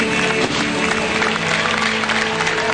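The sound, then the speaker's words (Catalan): A large crowd claps steadily in a dense, continuous wash of applause, with a faint tonal hum and scattered cheers blended in, as a carnival fireworks display ends. “Aplaudeix la gent, aplaudeix també, en aquest cas, la gent de 1, 2, 3 i des de l'enterimat.”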